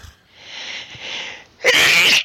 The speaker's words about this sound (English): I sneeze. That is something to sneeze at.